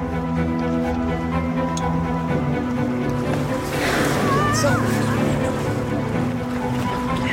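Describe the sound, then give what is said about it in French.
A boat's engine drones steadily over rushing water and waves in the Bering Strait, at the gateway to the Pacific Ocean, just after crossing the Northwest Passage, with whales alongside; a constant wash of sound, with faint voices briefly audible midway. “Elles vont ressortir devant le bateau”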